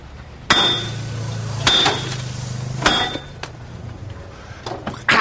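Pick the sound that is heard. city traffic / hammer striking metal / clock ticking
hammer striking metal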